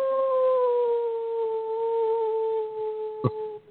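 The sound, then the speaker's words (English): A person lets out a single long, mournful howl of grief, a wailing, holding a steady, slightly falling pitch for about three seconds before it cuts off, with a brief click near the end. “Howling, like a howl.”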